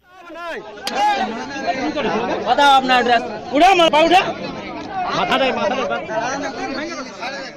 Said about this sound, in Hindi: ये आवाजें हैं एक ऐसी ही उन्मादी भीड़ की जो देश के किसी हिस्से में कानून हाथ में लेकर अपने शिकार को खुद सजा दे रही है। ये लोगों का हुजूम है जो लाठियों और डंडों से लैस होकर सड़कों पर तांडव मचा रहे हैं।